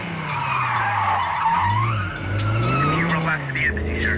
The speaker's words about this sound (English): The limo screeches round a corner, followed by a black car.